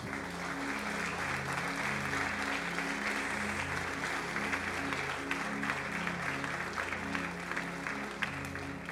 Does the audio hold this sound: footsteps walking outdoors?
no